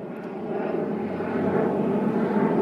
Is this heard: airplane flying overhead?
yes